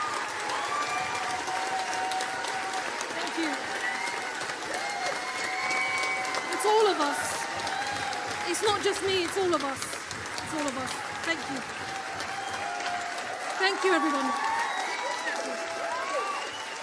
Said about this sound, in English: Clapping now and applauding and showing your love for Apsana Begum.